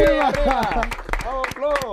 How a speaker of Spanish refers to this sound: En este caso, viene a presentar como doblador su película Kung Fu Panda. Así que un aplauso muy grande para Florentino Fernández.